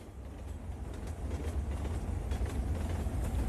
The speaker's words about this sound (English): It's a train.